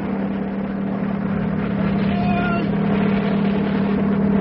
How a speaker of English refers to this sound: And that helicopter is bringing his mail from the United States. Yeah, here it comes. Ahoy up there! Aboard the helicopter!